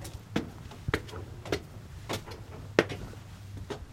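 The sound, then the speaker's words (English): A side door of the building for the new Northwest Arkansas Free Health Center being opened to enter: a series of sharp latch clicks and light clunks, spaced irregularly over a low, steady background hum, with no talking. “opened a side door to enter what will soon be the new Northwest Arkansas Free Health Center.”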